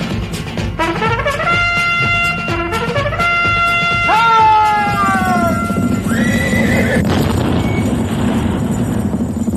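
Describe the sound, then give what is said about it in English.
A horse whinnies loudly several times in a row, shrill, wavering calls that fall in pitch, over a steady rumble of hooves clip-clopping. “I forgot my horse.”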